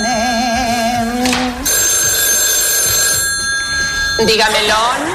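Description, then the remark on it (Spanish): A telephone rings loudly and steadily for a few seconds, a bright sustained electronic trill, with warbling tones and murmuring voices before and after it, in a Martes y 13 comedy sketch where Millán Salcedo, dressed as a woman, answers with a slice of melon held to the ear. “el de Martes y 13, vestido de mujer, cantando ahí, cortando rodajas de melón, y que suena el teléfono, coge una de esas rodajitas de melón y se la pone en la oreja?”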